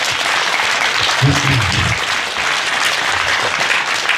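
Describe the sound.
Sustained applause from a crowd fills the whole stretch, dense and steady, with a brief burst of voices or cheering rising through it about a second in.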